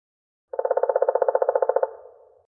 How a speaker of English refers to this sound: Who's tweeting? 谁在啾啾叫? Let's watch the birds. Hello! Let's find who's making that noise.